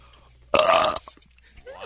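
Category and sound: human body sound, burp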